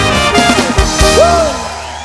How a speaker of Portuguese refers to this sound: Uma salva de palmas para as mulheres aí.